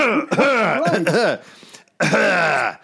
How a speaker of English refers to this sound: But the worst thing is, you know, you often need to clear your throat, you know, like...